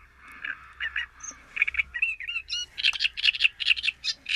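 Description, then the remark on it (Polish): A great reed warbler sings a loud, harsh, chattering song of grating and croaking phrases, repeated in quick rhythmic bursts that grow busier toward the end, with no talking. “Oprócz skrzeku żab słychać właśnie ten charakterystyczny dźwięk.”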